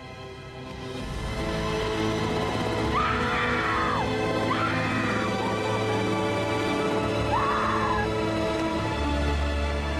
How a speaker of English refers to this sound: Covering her mouth to muffle her own screams, she's inconsolable as she witnesses the full horror of what's happened there.